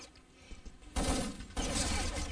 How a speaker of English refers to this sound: As you hear gunfire being exchanged over in the fish factory hallway, Steel hit in the helmet by Pain God as Mega Boy gets a whole lot of hole from Steel's DE, lifeless body laying on the ground there just next to the ramp.